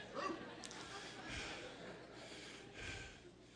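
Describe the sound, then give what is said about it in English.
A person voices a dog's growl, letting out two short, gruff 'arr' sounds a second or so apart, moderately loud against a faint background hiss. “And somebody gets close and the dog goes, "Arr!"”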